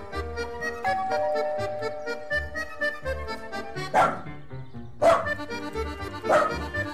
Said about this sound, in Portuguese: E para de latir, porque senão, ó, não vai ter passeio depois.